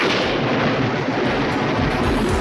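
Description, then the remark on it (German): A loud, continuous rumble of thunder with crackling texture on a very thundery day with rain showers, holding steady for a couple of seconds without pause. No voices are heard. “Ja, es ist sehr, sehr, sehr gewitterig heute.”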